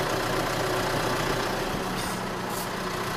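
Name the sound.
tractor engine idling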